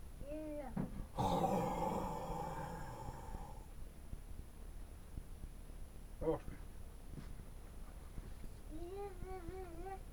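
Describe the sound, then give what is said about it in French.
A child roars in imitation of a lion: one long, loud, raspy growl lasting a couple of seconds, followed by quieter background noise and a brief sing-song voice near the end. “Ouais, tu fais bien le lion.”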